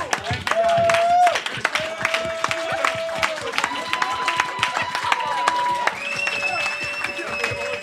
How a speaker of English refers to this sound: Could we get a round of applause for the audience, please? Yes, a round.